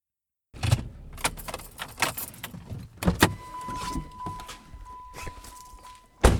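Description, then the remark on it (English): A car door thumps as a woman steps out of the car, then footsteps scuff and keys jingle while a steady electronic door chime rings as she walks around to the other side of the car. Another solid door thud lands at the end; no one speaks. “She stepped out of the car and walked around to my side.”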